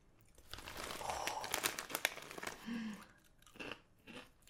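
Someone chews crunchy barbecue-flavored chips from a package labeled in German, with a quick series of loud, crackling crunches that ease into softer munching, along with a brief low murmur from the chewer.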